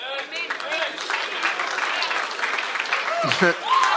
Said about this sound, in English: I was not looking for a clap there. I was making a broad general statement about life, okay? But thank you.